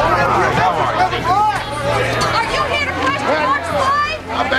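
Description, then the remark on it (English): A dense crowd of reporters chattering over one another around a limousine stopped in front of a hospital in daytime, a loud hubbub of overlapping talk with no single clear speaker, continuing steadily throughout. “Reporters crowd the car”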